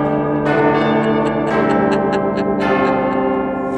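church bells ringing

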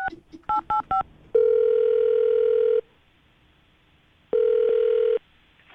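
telephone dialing and ringing

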